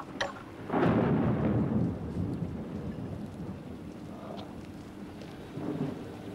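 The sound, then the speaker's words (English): Steady, hissing rainfall pours down in Blackpool while ladders are pulled up a chimney, with a deep roll of thunder swelling near the start and a smaller rumble toward the end; no voices. “and I don't really suppose you bargained for this kind of an holiday, pulling ladders up a chimney in the pouring rain.”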